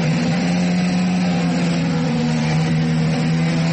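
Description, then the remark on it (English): Stock car engines roar in a virtual race around an oval, a loud, continuous drone with a steady low hum and a wash of buzzing noise on top, holding constant throughout without speech. “Stock car racing is also roaring around virtual ovals.”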